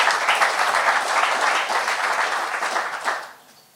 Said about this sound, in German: Ja, ganz großen Applaus.